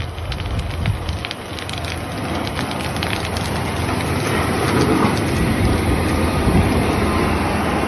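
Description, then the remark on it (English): An Idaho Department of Transportation snow plow blade scrapes along an asphalt road, crunching swarming Mormon crickets as it clears them off the road, in a dense, continuous crackle with a low rumble underneath, steady and fairly loud throughout with no voices. “And do you hear that crunching? That's either the crunching of the crickets or the scraping of the blade on the asphalt.”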